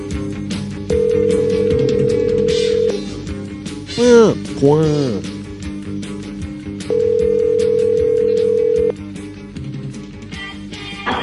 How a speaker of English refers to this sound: This is your old pal, Goofy. And I'm answering the phone here.